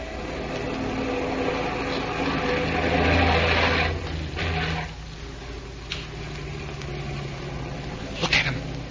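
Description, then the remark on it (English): Heavy trucks approach, their engines rumbling in a steady low drone that swells to its loudest midway, then eases off, with a couple of brief sharp knocks near the end. No one speaks. “Those trucks will be here any minute.”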